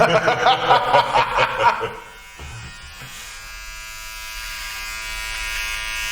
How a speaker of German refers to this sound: Du rasierst mich auf der Nase, ist ja der Hammer. Ja, das störte mich.